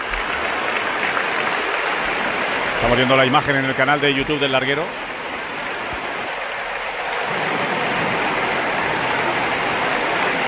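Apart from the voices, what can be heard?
long ovation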